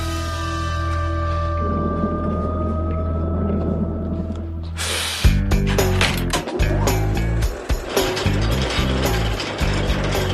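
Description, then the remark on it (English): A steady mechanical hum gives way to a loud rattling clatter as a cart is rolled back out to the front across the floor, its wheels knocking and jostling unevenly for several seconds. “take the cart and roll it back out in the front here.”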